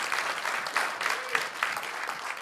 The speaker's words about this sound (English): Well, let's begin with a word of praise to our God. Let's give him a big old loud hand clap of praise.